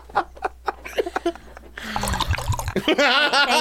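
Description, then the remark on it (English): A few short, wet slurping sips of hot tea come in quick bursts, then laughter and chatter from several voices swell up and cover the rest. “Let me have a sip of tea here.”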